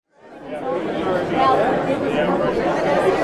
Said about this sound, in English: A crowd of more than 200 people poured into the upstairs meeting room at Homer's Best Western Bidarka Inn Tuesday afternoon.